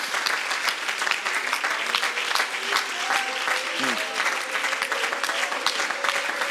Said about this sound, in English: One more time, why don't we give Him a good hand clap of praise?